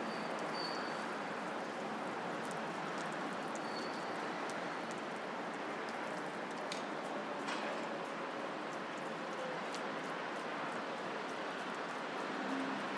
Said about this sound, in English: There sound to be buses moving in some directions. But the road definitely sounded blocked going in the southbound direction, which is the direction that I need to go in.